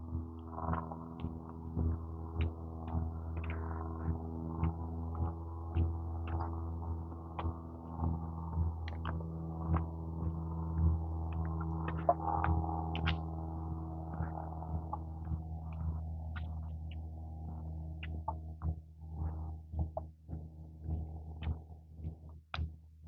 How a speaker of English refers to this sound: Plane, but I don't see. Obviously, not as close as it sounds, but.